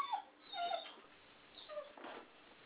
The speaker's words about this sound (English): I like how your dog is confirming. Your dog is, like, confirming. He's, like, singing or something. No, he wanted to take a walk